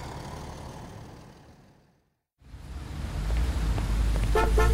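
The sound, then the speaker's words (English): Busy street traffic with lots of cars on the road rumbles, briefly cuts to silence, then returns louder with engines droning and a short burst of car horns honking near the end. “There are lots of cars on the road today.”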